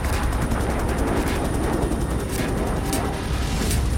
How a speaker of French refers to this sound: Débarquements amphibies chinois sont précédés d'un déluge de feu.